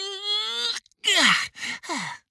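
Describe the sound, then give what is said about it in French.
A voice acts out a big, drawn-out, jaw-stretching yawn as a character sits up in bed after waking and stretches his arms: a long stretched groan followed by a few shorter sighing, downward-sliding breaths, fairly loud with no other sounds. “Il s'assit sur son lit, étira ses bras incroyablement longs et bâilla à s'en décrocher la mâchoire.”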